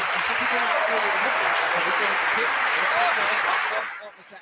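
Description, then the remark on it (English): A canned burst of crowd applause: dense, steady clapping mixed with faint cheering voices, holding loud for nearly four seconds before quickly fading out. “Can we get the applause sound effect?”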